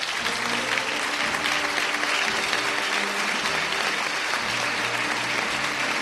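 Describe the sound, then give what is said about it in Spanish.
A crowd at a Holy Thursday procession on a very hot day applauds steadily as the image of the Cristo de la Buena Muerte is set on its throne. Dense clapping fills the whole stretch at an even, fairly loud level, with faint low voices murmuring underneath. “Ya está entronizado, el aplauso, la imagen del Cristo de la Buena Muerte en su trono.”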